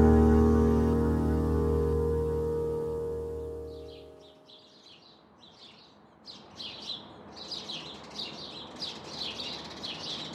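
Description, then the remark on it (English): After a low, sustained tone fades out, a Cooper's hawk gives a rapid series of sharp, harsh calls, repeated steadily and fairly loud, with no talking. “Cooper's hawk”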